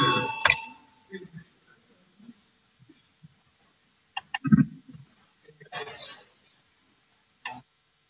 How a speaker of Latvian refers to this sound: Lūdzu, zvanu, balsosim par 126.